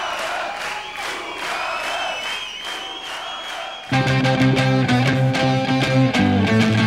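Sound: concert audience applauding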